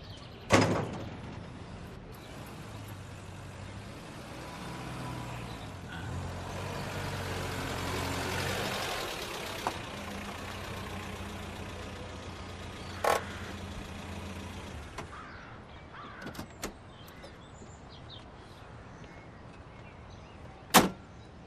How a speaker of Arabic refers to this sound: سكري الباب بسرعة وتعي لشوف.